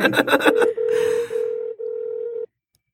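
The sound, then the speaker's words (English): A quick flurry of electronic dialing beeps gives way to a steady, clear call tone with a few brief breaks, like an outgoing phone call ringing. The tone is fairly loud, and no one speaks. “I feel like I'm making a Skype call with no visual.”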